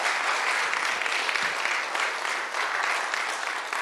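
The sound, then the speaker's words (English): An audience applauds a speaker for sharing, dense overlapping claps forming a bright, sustained wash of sound at fairly even loudness for a few seconds, with no voices over it. “Right, let's give Gerard a round of applause for sharing.”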